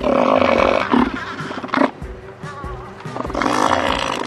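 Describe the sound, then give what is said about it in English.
Loud, guttural roars from a large elephant seal in Antarctica, harsh and throaty, repeating in bursts with a rough pulsing texture and brief quieter gaps between calls. “Elephant seals providing crucial data on climate research.”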